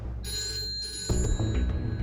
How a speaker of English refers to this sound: Phone calls at this time of night only bring bad news.